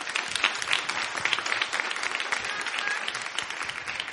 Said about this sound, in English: Now you might as well clap your hands.